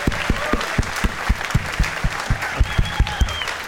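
An audience applauds steadily as Cash Levy is welcomed, with sharp claps landing in a quick, regular rhythm over a bed of crowd noise and a few faint whoops or whistles; no one speaks.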